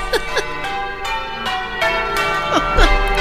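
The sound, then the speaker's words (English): A peal of church bells rings out for a wedding, loud and resonant, with strikes arriving roughly every half second and their long, shimmering tones overlapping into a continuous clangour. “They are irritating, those bells, aren't they?”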